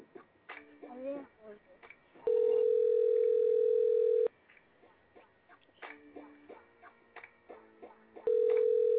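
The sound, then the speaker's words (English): A phone's outgoing ringback tone on a call that goes unanswered to voicemail: a loud, steady electronic buzz lasting about two seconds, a pause of several seconds, then it starts again. Voices murmur quietly in the gaps between rings. “I'm calling him for real.”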